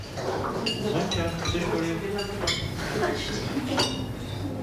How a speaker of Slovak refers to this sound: V kuchyni už prestali štrngotať príbory